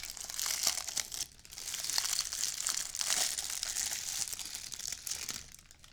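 Continuous crinkling of a thin plastic bag being handled and pulled open from a drinking glass in a hotel, with irregular crackles and rustles lasting several seconds and no talking.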